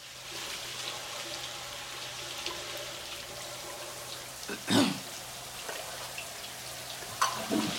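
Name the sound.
shower water running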